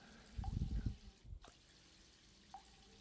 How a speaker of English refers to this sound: Silently, the doppelganger cuts down the dead hobgoblin as the last of his vital fluids drip onto the floor of the cave.